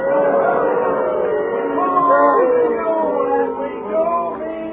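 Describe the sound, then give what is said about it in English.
A crowd boos loudly and steadily, many voices holding long, overlapping droning tones that swell and waver without a break. “They're booing you now.”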